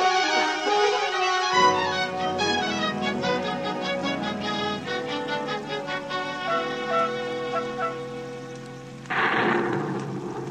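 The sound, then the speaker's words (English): Heavy rain pours down steadily in a storm with lightning, a dense, hissing wash with low rumbling beneath, swelling into a louder, brighter downpour near the end. No one speaks. “It's hard to see through the rain.”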